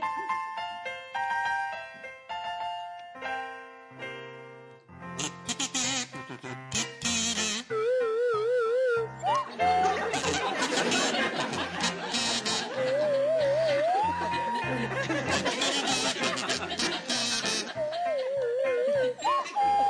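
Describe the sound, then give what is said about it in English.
A buzzing kazoo and a sliding swanee whistle play a bouncy tune together, the whistle swooping up and down in pitch over steady accompaniment, loud and continuous throughout. “on the kazoo and Rachel Paris on the Swanee Whistle”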